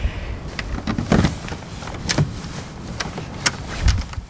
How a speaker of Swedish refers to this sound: Det krånglar lite det där låset, så där, men nu är vi in, tack.